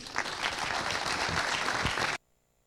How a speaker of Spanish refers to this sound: Fuerte los aplausos para el equipo médico del Hospital de Clínicas.